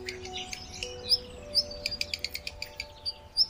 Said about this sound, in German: Das Zaunkönigkind holt daraufhin tief Luft. Und plötzlich piepsen die beiden ein wunderschönes, lautes und fröhliches Doppelkonzert durch die Blätter.